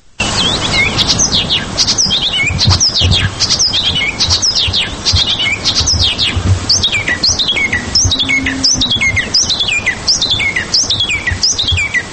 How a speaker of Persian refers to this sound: حالا اکنون در تاجیکستان یافتندش و در کوهستان بدخشان. پیش از صحبت با فردی که چکاوک درشتنوک را در تاجیکستان پیدا کرد، اول سرودن این پرنده خوشیلهان را میشنویم.